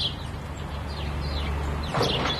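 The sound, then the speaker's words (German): Sparrows chirp in short, scattered bursts at the back of a residential block on Müllinenstrasse, set against a steady low hum of traffic or city background noise. “Die Müllinenstrasse ist auf der einen Seite recht laut, aber hinten raus konnte ich die Spatzen hier hören.”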